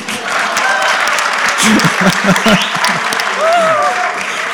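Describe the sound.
An audience applauds steadily, dense clapping filling the whole stretch, with a few scattered voices and whoops rising over it midway and near the end.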